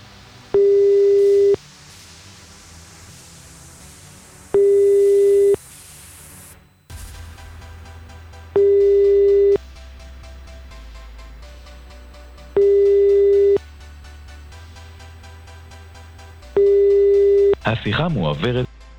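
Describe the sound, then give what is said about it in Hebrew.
A telephone ringback tone sounds in five steady one-second beeps, spaced about four seconds apart, over faint background music and hum, like a call waiting to be transferred. “השיחה מועברת.”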